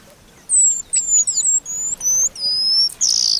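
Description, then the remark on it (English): An eastern paradise whydah, a small East African finch about 5 inches long, calls in a quick series of thin, high whistled chirps and sliding notes, clear, ending with a brighter buzzy note, with no talking. “A few times each year, the eastern paradise Whydah puts on its party clothes.”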